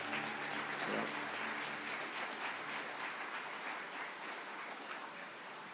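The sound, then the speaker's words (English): A church crowd breaks into sustained applause for the worship team, a dense wash of many hands clapping at steady volume for several seconds, with faint voices mixed in near the start. “Hey, how about giving the worship team that's worked just like crazy hard the last couple of days just a round of appreciation, of applause?”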